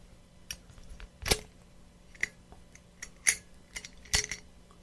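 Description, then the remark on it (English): A beer growler's cap being worked open: a handful of sharp clicks and glassy clinks at uneven intervals, with quieter handling taps between them and no talking. “I will pop the top. Growler.”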